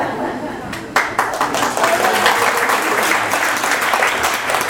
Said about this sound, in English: Give her a clap.